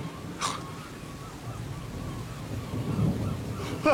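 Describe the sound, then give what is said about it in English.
Steady rain hisses over a low, rolling rumble of thunder, with a sharp crackling burst near the start and another swell toward the end, no voices present. “Oh, the storm begins.”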